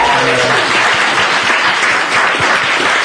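A crowd applauds loudly and steadily for about three seconds, a dense wash of many hands clapping with no pauses, and a few faint low tones at the very start.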